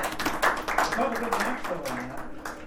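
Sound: round of applause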